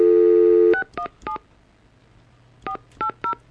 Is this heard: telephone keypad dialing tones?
yes